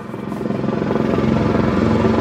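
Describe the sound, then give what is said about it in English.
A helicopter flying over Los Angeles traffic: its rotor thumps in a fast, steady chop with a low engine drone, growing louder as it draws near and passes overhead. No voices. “But helicopters are big, loud, expensive to run, and restricted as to where they can fly and land.”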